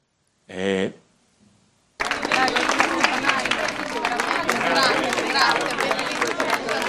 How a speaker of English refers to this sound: Afterwards, behind the scenes, crew clap Leopoldo as he's led back there.